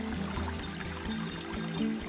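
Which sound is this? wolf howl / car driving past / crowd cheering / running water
running water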